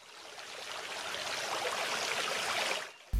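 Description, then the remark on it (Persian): Water flows and trickles steadily from a spring in a forest, babbling over stones, continuous for a few seconds before cutting off abruptly. “یه روز خرگوش کوچولو در حال دویدن و بازی کردن بود که به چشمه سحرآمیز رسید.”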